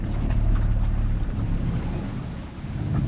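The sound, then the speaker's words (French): A small boat motors steadily along a narrow branch of a river, passing under low branches that skim the water; its low engine drone and churning wash fill the scene, with a continuous splashing hiss and no voices. “On se faufile, on manœuvre sous les branches qui rasent l'eau, faut baisser la tête.”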